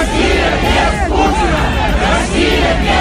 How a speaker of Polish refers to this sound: Rosja bez Putina, Rosja bez Putina, krzyczały tłumy w Moskwie.